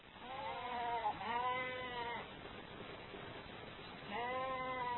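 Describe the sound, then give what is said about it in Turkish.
Sheep and goats bleat in three wavering calls, two close together at the start and one more after a pause, over a steady background hiss with no talking. “Hemen koyun, keçi, deve, at, sığır satın aldı.”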